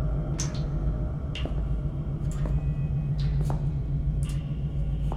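A faucet leaks, sending sharp little drips about once a second, five in all, over a steady low hum.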